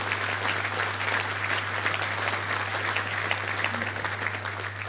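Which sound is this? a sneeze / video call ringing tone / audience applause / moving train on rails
audience applause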